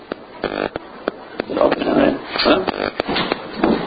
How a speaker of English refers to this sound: Someone knocking?